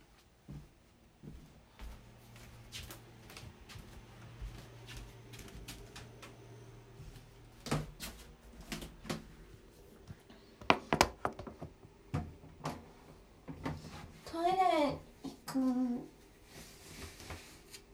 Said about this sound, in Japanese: 前の廊下なんかちょっときしむんですよね。